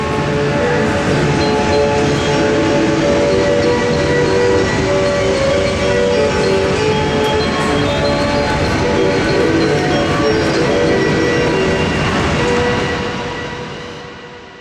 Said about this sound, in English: And it must have been brilliant to have been a kid here back then, standing with all your mates as the train approached.